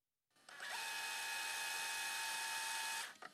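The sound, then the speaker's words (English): A steady electronic screech of fax machine transmission noise, with high whining tones over a hiss, running unbroken for about three seconds and cutting off abruptly, fairly loud. “Yeah, that does sound like a fax machine.”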